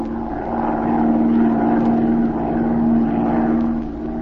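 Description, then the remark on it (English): A propeller plane's engine drones steadily and loudly as the plane circles lazily over a city, a continuous low hum with a throbbing buzz that swells slightly and holds without pause. “short time later, Z and Patricia Norwood took off in Z's plane and began to circle lazily over the city.”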